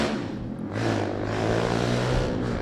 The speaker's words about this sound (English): God bless those motorcycles.